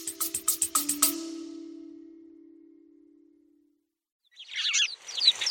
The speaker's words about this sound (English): it's one of the success stories for conservation at High Ash Farm, the house sparrows, one of those red list species, declined by 50% or more, and we have over 100 here.